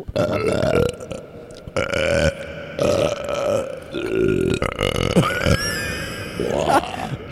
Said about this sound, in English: Can you turn the echo on for these burps? I can. Sure, go ahead.